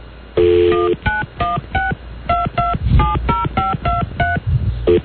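A phone number is dialed on a touch-tone keypad, trying a guessed first digit of a missing number: about a dozen short dual-pitched beeps in quick, uneven succession, clear, starting with one longer tone.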